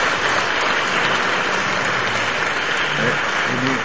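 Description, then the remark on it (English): A crowd claps steadily throughout, a dense, even wash of many hands at a constant moderate loudness, with faint voices murmuring underneath near the end. “You don't want to clap? You can clap? Můžete zatleskat, jestli chcete.”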